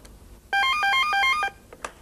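A telephone rings once with a bright electronic trilling tone lasting about a second, clear, as an outgoing call is placed to a second telephone, followed by quiet handling clicks. No one speaks.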